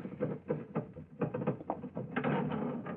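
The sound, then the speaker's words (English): A sticking elevator door is forced open, making a series of jerky scraping and rattling bursts that build into a longer grinding scrape toward the end. No one speaks. “Oh, really, now, I must speak to him again about this elevator door. Sticks something terrible.”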